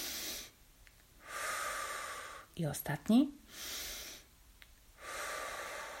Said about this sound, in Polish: Oddychamy noskiem, wciągamy powietrze. I wypuszczamy ustami. Jeszcze raz.